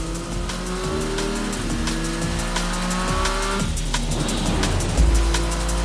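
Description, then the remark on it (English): In the game Forza Horizon 3, a Tata Motors Tomo Racemo sports car engine revs hard in the Australian Outback, its pitch climbing and dropping through several gear shifts, with bursts of tire squeal over a steady roar and no voices. “Check out this next-generation racer in the beautiful Australian Outback now.”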